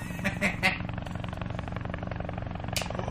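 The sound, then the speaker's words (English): A helicopter's steady, rhythmic rotor chop drones continuously for a few seconds at moderate volume, with a few brief higher-pitched bursts near the start. “Now a helicopter? Yeah, it's landing on the 45th floor.”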